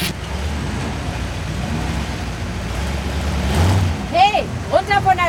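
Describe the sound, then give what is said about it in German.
A VW Touareg SUV, nearly 2 metres wide and almost 5 metres long, drives through street traffic with a steady low engine rumble and broad road noise that swells slightly before a voice starts talking over it near the end. “Straße! Ein VW Touareg, knapp 2 Meter breit und fast 5 Meter lang.”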